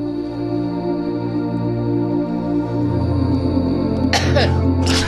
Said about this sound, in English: Sorry. Someone had to give a revolting dry cough, which, by the way, is the first sign of... coronavirus.